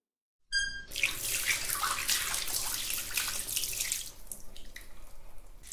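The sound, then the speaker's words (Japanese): Water pours in a steady, hissing rush as shampoo is rinsed from hair, starting right after a brief squeaky tone and turning more uneven and splashy toward the end. No one speaks. “頭を流すよ。”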